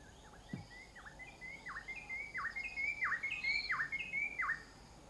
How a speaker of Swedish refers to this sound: Man hyr ut lärarfåglar och i den klara morgonluften fylls atmosfären av fågelsång.